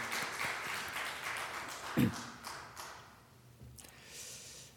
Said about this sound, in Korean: 예, 우리 장로님만 박수 주시는데 우리 박수로 우리 하나님께 영광 돌리도록 하겠습니다.